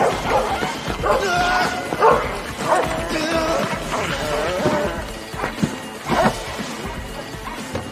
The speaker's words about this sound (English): … runs from a pack of dogs